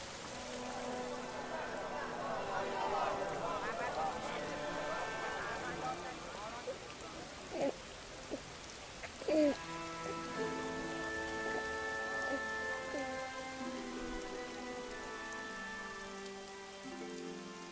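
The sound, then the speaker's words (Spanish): Steady rain pattering on a surface fills the background with a dense hiss, joined by sustained tonal sounds and a few brief louder knocks partway through. “Pero el que hizo arder el templo de Istar y descender la lluvia sobre nosotros es Dios, el único Dios.”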